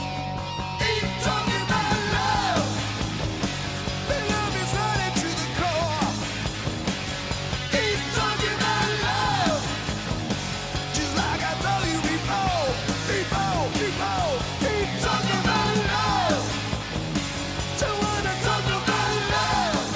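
A hard rock song plays steadily and loudly, a dense wall of electric guitars and pounding drums under a strained, soaring vocal with sliding, bent notes.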